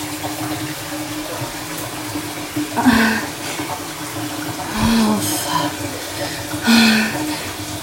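household object, running water pouring

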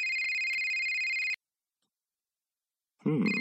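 signal or alarm, mobile phone ringtone ringing

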